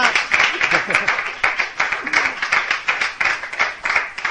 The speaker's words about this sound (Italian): Allora, grazie, un applauso